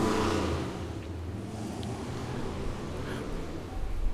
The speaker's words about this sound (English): As we allow the wind to go past, and we hear the motorcycles as well.